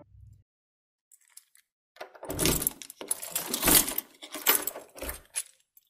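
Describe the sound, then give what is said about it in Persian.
Keys jangle and clink in bursts of metallic rattling, followed by the clunk of a prison door lock being worked with a key, fairly loud with no voices. “اکشن که کوچک بود، توانست از زندان خارج شود و آرام آرام کلید را برداشت و در زندان را باز کرد.”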